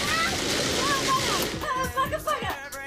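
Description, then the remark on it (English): A food mixer whirs loudly, with wet sauce splashing and spattering onto a woman's chest and face. After about a second and a half the splashing gives way to a voice talking. “Sauce splashed on her chest and face, she swigs some brandy.”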